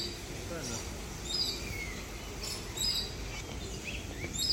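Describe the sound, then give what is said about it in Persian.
Chicks chirp in short, high tweets scattered across the moment, fairly soft against a steady low rumble of outdoor background noise, with a faint murmur of voices underneath. “جوجه های خوشگل چقدر زیبان.”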